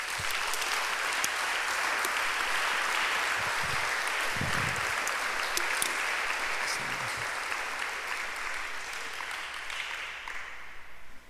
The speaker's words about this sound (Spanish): Un aplauso al Señor.